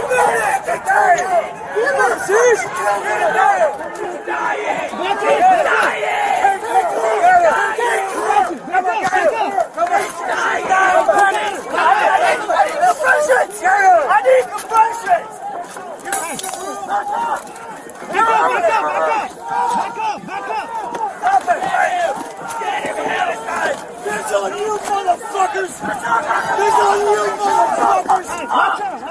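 A large protest crowd shouts and yells over itself in a continuous, loud, agitated roar, many raised voices overlapping with no pause for the full half minute, as DC Metro police spray pepper gas on protesters performing CPR on a woman.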